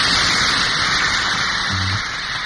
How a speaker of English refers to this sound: It sounded like all teenage girls screaming like crazy. And even though I was an elementary school kid, I was screaming like crazy too, and we were sitting way up at the top and could barely see them anyway, could not hear any music.